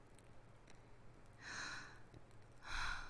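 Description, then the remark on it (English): Two heavy, uneven breaths, one around the middle and a louder, rougher one near the end, each a broad airy rush over a faint low hum. “Just sit back and relax. Let's get that breathing settled.”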